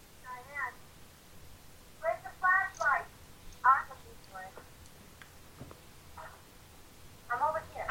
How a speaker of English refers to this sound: Sorry, I got a text.